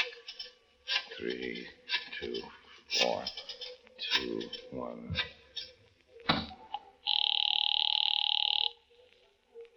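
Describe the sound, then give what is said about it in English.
Voices talk for several seconds, then a single steady telephone ring sounds over the line for under two seconds, a loud, even electronic tone before it cuts off; the call is placed from a phone in a drugstore downtown. “Yeah, you got a phone in here.”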